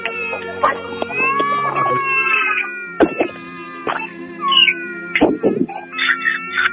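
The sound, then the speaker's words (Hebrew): An infant, just revived after successful resuscitation by emergency responders in Jerusalem and being taken to hospital, cries in a series of thin, high, wavering wails that rise and fall over several seconds, broken by bursts of clattering noise and other background sounds; a real emergency dispatch recording. “הנה הוא בוכה, התינוק בוכה, סיפור עם סוף טוב, סיפור דרמטי, הקלטה אמיתית מתוך המוקד.”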